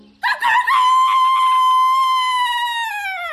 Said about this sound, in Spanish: Sobre el portón de entrada estaba el gallo y cantaba con todas sus fuerzas.